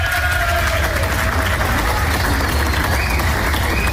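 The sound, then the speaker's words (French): Les Herbiers (Vendée) football supporters applaud and cheer at the end of the match in a dense, steady roar of clapping and crowd noise that stays loud and unbroken throughout, with faint whistles rising above it. “Et lorsque l'on parle d'ambiance, il y a quelques instants, à la fin de la rencontre.”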